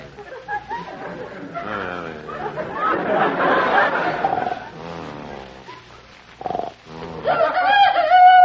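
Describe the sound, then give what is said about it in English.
A chicken crows loudly at 3 a.m., with long harmonic calls rising and falling amid a busy flurry of clucking and chattering bird sounds, ending on another strong crow. “It's just a chicken crowing.”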